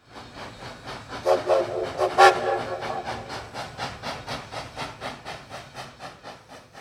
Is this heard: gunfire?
no